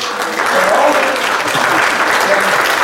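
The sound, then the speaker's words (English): A crowd applauds and cheers on the Colfax girls volleyball team, district winners heading to state, a dense wash of clapping at a fairly loud, even level throughout, with faint cheering voices mixed in. “And so we want to cheer on”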